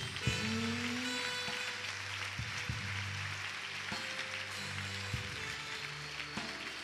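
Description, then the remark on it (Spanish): A crowd applauds steadily and loudly for several seconds, a dense wash of clapping that never lets up, with sustained low musical notes humming underneath and no one speaking. “¿Alguien puede dar un fuerte aplauso por todo esto?”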